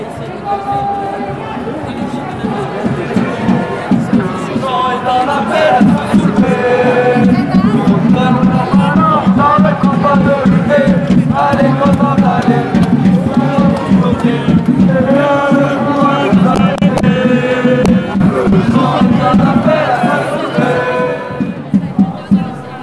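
A dense crowd of marching protesters in cold, dry weather, many voices shouting and chattering at once, a loud, continuous babble with scattered raised cries and no single voice standing out, sustained for the whole stretch.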